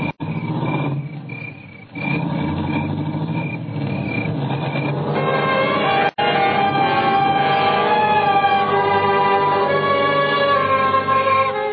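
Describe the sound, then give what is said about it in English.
A car engine runs loudly throughout, with a steady rumbling drone that briefly cuts out and then rises in pitch as it revs and pulls off. No voices. “Car leave, and I knew what it meant.”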